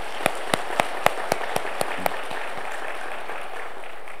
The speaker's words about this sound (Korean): 할렐루야. 우리 하나님께 영광의 박수 올려드립시다.